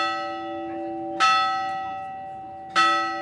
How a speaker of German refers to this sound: Wer an der Glocke der kleinen Kapelle dreimal läutet, darf sich etwas wünschen. Außerdem werden böse Geister vertrieben, so eine Sage.